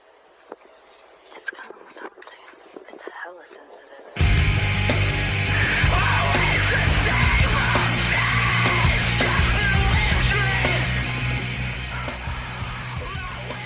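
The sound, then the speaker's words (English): After a few seconds of faint, thin, sparse sounds, a loud, dense rock song crashes in with heavy distorted guitars, pounding drums and raw, anguished screamed vocals that continue to the end. “has this scream that's so visceral, you can tell he's hurting himself.”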